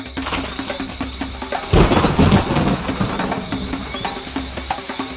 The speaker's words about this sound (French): Les premières gouttes de pluie surprennent Annelise. Les nuages noirs qui menaçaient tout à l'heure se crèvent et une pluie de plus en plus forte recouvre les feuillages et la terre.